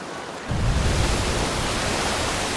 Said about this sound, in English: Other penguins near the shore struggle against the force of the wave. A large wave crashes, sending a fountain of spray up.